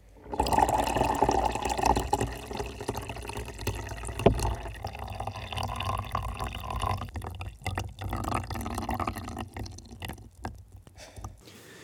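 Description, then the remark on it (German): Water drips and splashes directly onto a condenser microphone attached to a coffee machine in an experiment, producing crackling, irregular wet taps with a sharp louder impact near the middle, continuing steadily with no voices. “Ein Hydrofon, ein Kontaktmikrofon und ein Kondensatormikrofon, auf das wir Wasser tropfen lassen.”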